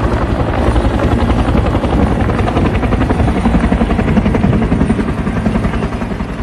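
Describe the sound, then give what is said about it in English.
A helicopter dumping buckets of water on buildings during a wildfire in La Ronge, northern Saskatchewan, roars steadily, its rotor producing a dense, rapid chopping pulse that stays loud throughout with no voices. “Helicopters dumping buckets of water on the buildings, and firefighters spray the buildings with a hose, unable to stop the flames.”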